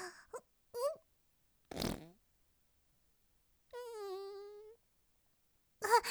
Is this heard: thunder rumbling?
no